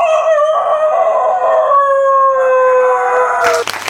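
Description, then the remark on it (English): A person imitates a rooster at a whistling convention with a loud, drawn-out crow, one long wavering call held for several seconds, then breaks off into a short burst of noise at the end. “But not many, at least none that I've ever been to, include headlining acts by chicken impersonators.”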